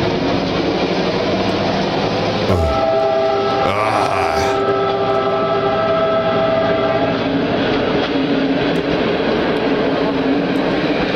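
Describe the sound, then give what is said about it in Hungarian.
A locomotive pulls away with a loud, steady mechanical rumble and chugging, while a sustained horn-like tone rises over it partway through. No voices. “Nem igaz, volt benne egy szép rész, most azt keresem, amikor kicsit megindul. Amikor elkezdett indulni. Ilyen dohogó.”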